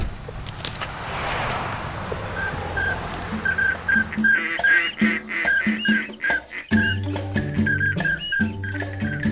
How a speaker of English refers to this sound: Today, we are here in Colusa to hunt ducks. Last morning of the season. After that, we put everything to rest. The sound, croc, croc, croc, croc, that's coots.